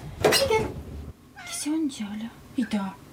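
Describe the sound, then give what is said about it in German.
A cat that wants to go outside meows, a short burst followed by two or three drawn-out, wavering meows at moderate volume, with brief pauses between them. “I just let my cat out, I think.”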